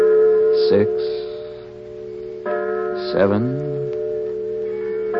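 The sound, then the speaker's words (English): A church bell tolls eight o'clock on a Sunday evening before evening services, its deep strikes ringing out every couple of seconds and leaving a long, humming resonance that hangs between them. “I heard the tolling of a church bell.”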